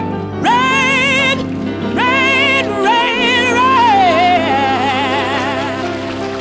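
A female gospel singer holds long, soaring notes with heavy vibrato over steady instrumental accompaniment, loud, her voice sliding and swelling through each phrase.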